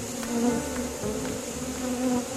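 honeybees buzzing

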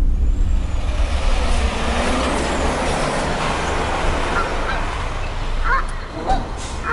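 canada geese honking

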